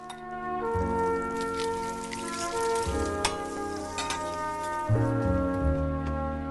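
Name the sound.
eggs sizzling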